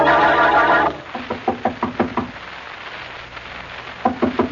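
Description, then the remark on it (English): A brief musical chord gives way to a series of sharp knocks by Blackie and Mary on Mrs. Worthington's door, about half a dozen in steady rhythm, then a pause before another quick burst of knocking. “Well, Mary, we've knocked on the door enough times to be the police.”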